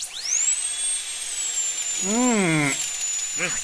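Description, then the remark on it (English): A dental drill whines at a steady high pitch, spinning up at the start and holding throughout, while a person's voice briefly groans or murmurs underneath near the end. “The words, next, the dentist will see you now, are as welcome a sound as the high-pitched whine of the dental drill.”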